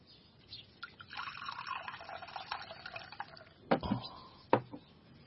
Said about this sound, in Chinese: 爹，您渴了吧？孩儿给您倒水喝。